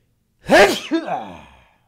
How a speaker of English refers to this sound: I'm about to sneeze.